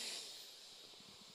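A steady, airy inhale drawn in through the nose during a guided breathing exercise, about a second and a half long, soft with a breathy hiss and no talking.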